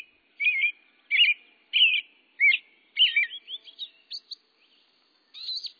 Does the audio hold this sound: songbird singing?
yes